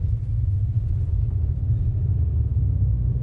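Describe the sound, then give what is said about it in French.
A steady, deep rumble of a large German sedan cruising along a wide highway with six lanes each way, in light Sunday-morning traffic through flat desert in Egypt, heard from inside the cabin, with constant engine and tyre drone and no voices. “Nous roulons sur une large autoroute, deux fois six voies.”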